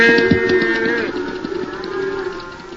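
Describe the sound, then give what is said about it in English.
A calf bawls for its mother in one long, wavering moo that trails off after about a second, with a low rumble of outdoor background noise continuing afterward. “Come on, little fella, find your mother.”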